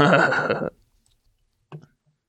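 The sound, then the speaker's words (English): A brisk, dense rustle of playing cards being shuffled for under a second, fairly loud, then silence broken by a brief soft tap or murmur. “Make sure you don't shuffle your hand in, friend. I just did.”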